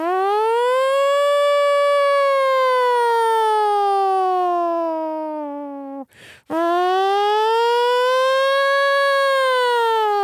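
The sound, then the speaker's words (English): A voice imitates a nuclear warning siren, holding a loud, steady wail that slowly rises and falls, breaking off briefly for a breath before launching into a second long wail. “Those fucking nuclear sirens are horrifying.”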